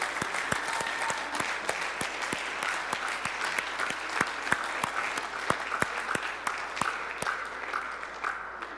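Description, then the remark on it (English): A church audience applauds Jesus after a prayer for healing and deliverance. The clapping is steady for several seconds, a dense wash with sharper individual claps popping out at irregular moments, holding fairly even in loudness before thinning slightly at the end. “Now let's give Jesus a round of applause this morning.”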